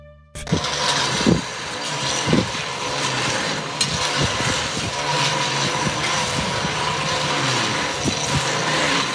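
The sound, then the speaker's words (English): A train rolls along a railway line near a house in the centre of Dublin, recorded from a backyard, with a steady, loud rumbling roar and broad hiss, punctuated by low thudding clunks every second or two. No one speaks. “And that's the railway line.”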